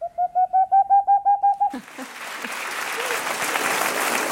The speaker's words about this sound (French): Et le dernier qu'on a entendu, c'était la chouette.